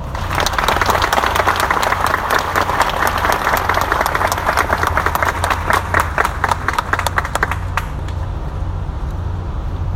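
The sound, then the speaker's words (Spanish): A crowd applauds former mayor Federico Gutiérrez, thanked for his four years of service to the city, dense overlapping claps holding strong for about eight seconds before thinning out and fading toward the end. No one speaks. “Para él pido un aplauso.”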